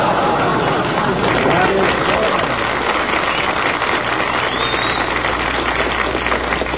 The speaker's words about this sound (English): That's the corned beef crowd applauding us.